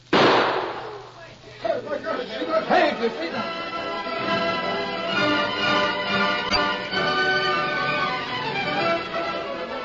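A loud, sharp gunshot, fired to shoot a gun out of a man's hand, bursts out at the very start and rings off quickly, with a softer crack a couple of seconds later, then a dense, steady tonal backdrop continues.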